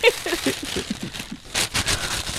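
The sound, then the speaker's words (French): Newspaper pages rustle and crinkle in dry, uneven bursts as someone scatters a newspaper in a studio, with a couple of louder sweeping rustles near the end and a soft low murmur underneath early on. “Il y a quelqu'un qui sème son journal dans la pièce.”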